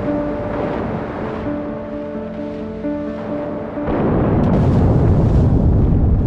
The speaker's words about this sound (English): HMS Batard and three other warships are on the scene by 10 a.m. and spend the next 10 hours hunting and depth-charging the U-boat.